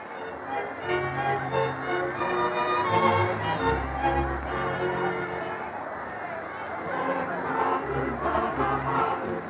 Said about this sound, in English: Everyone out there is so happy to be alive and well again. They're dancing and cheering.